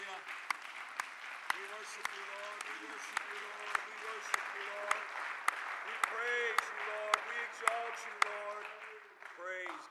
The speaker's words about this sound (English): Let's clap our hands to the Lord Jesus Christ. Let's clap our hands to him. Exalt him.